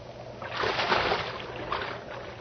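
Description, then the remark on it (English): A heavy splash as a body drops about 12 feet into water, a burst of churning spray that settles into sloshing and lapping, with a smaller second surge shortly after. No one speaks. “Come on in. The water's fine. It's about a 12-foot fall.”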